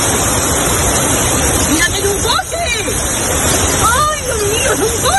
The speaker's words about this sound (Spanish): En Cádiz hoy siguen mirando al cielo tras la tromba de agua que provocó ayer una caída en el seteril de las bodegas. Ha arrastrado coches e inundado viviendas y garajes.